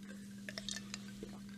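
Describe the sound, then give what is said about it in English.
A quiet sip from a drink: a short cluster of small wet clicks and slurping ticks lasting about half a second, then one softer click, over a steady low hum with no talking. “But that's not a full gulp.”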